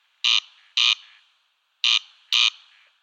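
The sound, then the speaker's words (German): A corncrake's call imitated by touching the lamellae of a hair trimmer's comb attachment with a small metal object: two pairs of harsh, dry rasping notes, each pair a quick double 'crex-crex', loud, with a short gap between pairs. “Ich habe hier so einen kleinen Trimmaufsatz vom Haartrimmer genommen und mit einem kleinen Metallgegenstand, ja, die Lamellen quasi berührt.”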